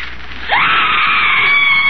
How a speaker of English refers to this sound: Officer Rooney has already identified those screams.